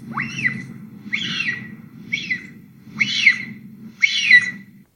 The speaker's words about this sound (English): But interestingly, too, you can get this 100-plus-pound animal calling its kits or a big kit calling mom, and they don't sound like some large predator. Let's listen to that.